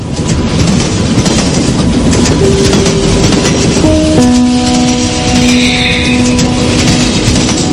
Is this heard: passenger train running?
yes